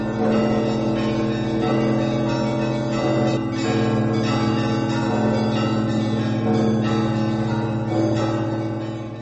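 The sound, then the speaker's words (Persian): The bells of the Cathedral of Christ the Saviour peal continuously for 15 minutes before Metropolitan Kirill arrives by limousine, several tones overlapping in a dense, sustained clangor with rich ringing harmonics, loud and steady throughout with no voices present. “میتروپولیت کریل بعد از 15 دقیقه زنگ زدن زنگوله های کلیسای عیسای مسیح نجات بخش سوار لیموزین وارد این معبد شد.”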